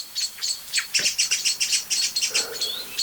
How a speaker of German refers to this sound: Und es ist nicht nur eine Amsel oder eine Singdrossel. Es sind jetzt viele, ne? Jetzt kommt der Pyrol, setzt sich ganz oben auf die Krone, über die ganze Glocke von Alarmrufen.